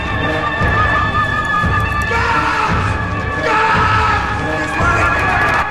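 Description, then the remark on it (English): Horses neigh and whinny loudly, their shrill calls rising and falling over a dense, continuous rumble of movement, with no voices. “We'll get the horses to the east gate.”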